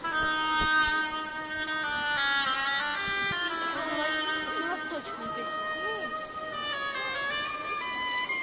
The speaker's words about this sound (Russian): Аплодисменты утке. Это был инструмент гобой.